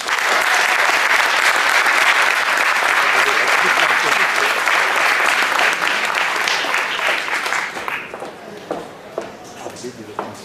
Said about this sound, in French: Je vous demande de faire un tonnerre d'applaudissements pour la directrice de la section féminine,